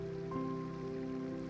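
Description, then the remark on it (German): Steady watery splashing and trickling of a brook fed by winter snow, flowing over stones and through small hollows, with a soft continuous murmur; a faint sustained tonal hum sits beneath it throughout. “Es fließt über Steine und durch kleine Vertiefungen. Ein stetes Plätschern und Murmeln, das dich tief entspannt.”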